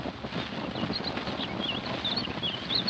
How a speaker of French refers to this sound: Écoutez l'oiseau. C'est un rossignol.